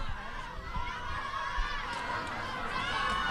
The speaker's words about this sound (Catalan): Doncs esteu escoltant l'eufòria. Sí, aquests són els crits de l'afició, eh?